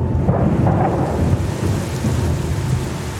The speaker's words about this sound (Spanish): No paraba de llover